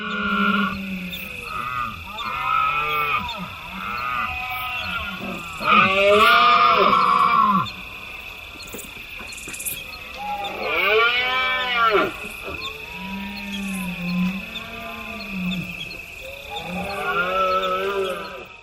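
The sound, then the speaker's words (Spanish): Red deer stags bellow repeatedly during the autumn rut, deep groaning roars rising and falling in long drawn-out calls, several overlapping, with no voices present. “Parecen cerdos, pero son ciervos berreando y además se escucha un ave rapaz.”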